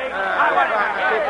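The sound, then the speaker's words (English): A dense, steady murmur of many voices talking over one another, an agitated crowd of workers outside babbling at a constant loud level with no single speaker standing out. “That crowd will tear you to pieces.”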